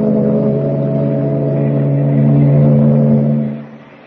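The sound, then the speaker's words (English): A deep, steady ship engine drone with strong low harmonic hum rises slightly in pitch midway, then fades away near the end, heard alone without any voices, as the ship clears the harbor and heads for the open sea. “Meanwhile, three decks above, well out of earshot, Clark Kent waits for the boys at the shuffleboard court as the ship clears the harbor and heads for the open sea.”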